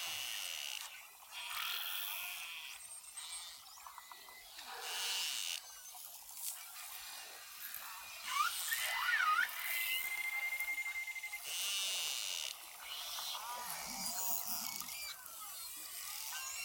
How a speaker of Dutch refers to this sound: Het is alsof ik bij de tandarts lig en dat ze echt met die ultrasone boor in mijn gebit zitten te poeren. Maar... Nee, dit is het niet. Dit is het geluid van beluga's. Dat zijn die hele mooie witte walvissen eigenlijk.